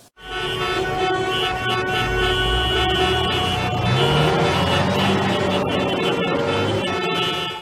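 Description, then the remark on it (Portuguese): Dense, stopped city traffic in São Paulo rumbles steadily throughout, with idling cars and heavy truck engines, a faint siren-like tone and an occasional horn toot layered over the continuous drone. “O trânsito de São Paulo tava aquela maravilha de sempre.”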